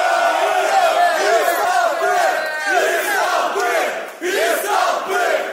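crowd cheering and shouting

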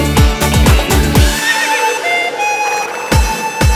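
horse neighing

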